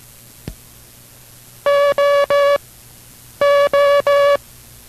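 International Morse Code tones sent as instruction: two groups of three long, steady dashes in a bright buzzy mid-high pitch, evenly spaced and loud, with a short click just before and no talking.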